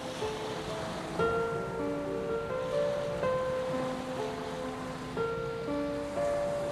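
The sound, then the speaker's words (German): Steady ocean surf washes continuously at moderate loudness on a beach partly covered with snow on a sunny winter day, the wide blue sea lying still with only slight ripples, with soft sustained musical notes drifting over it and changing every second or two; no one speaks. “Und richte meinen Blick hinaus auf den Horizont des weiten blauen Meeres.”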